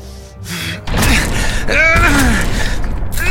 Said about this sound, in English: He tried to force the door, but it was cold iron.